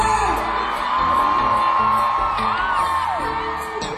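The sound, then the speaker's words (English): A crowd of women in an audience screams and whoops in response to a performer's call, in sustained, high-pitched unison, loud and continuous for several seconds, with individual shrieks rising and falling over the roar. “Do I have some ladies in the house? Ladies, let me hear you scream.”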